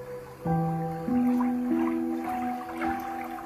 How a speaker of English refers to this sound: Running water down a little creek bed, trickle, as you can hear in the background.